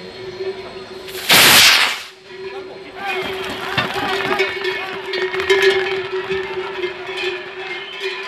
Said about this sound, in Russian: По традиции, фиеста начинается с запуска сигнальной ракеты «Чупинозо».